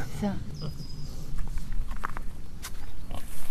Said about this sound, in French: Là, on aperçoit le porc qui grignote, qui, je crois, a bien conscience que quelque chose se passe au niveau médiatique aujourd'hui du côté du vigneron.